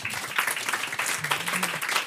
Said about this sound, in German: Ah, oh, das ist schön. Applaus.